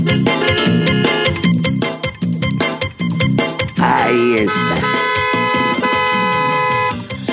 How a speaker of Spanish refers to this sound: Toca el claxon.